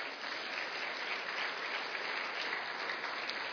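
Steady audience applause for two men who stand up in the audience, a dense, even wash of many hands clapping at a constant level for several seconds with no voices standing out.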